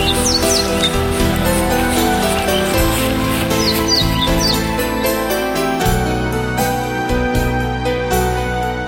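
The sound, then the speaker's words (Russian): A few short, high swallow chirps flutter over loud, full background music; the little tweets come in brief clusters and stay partly buried under the instruments. “Надо срочно спасать птичку.”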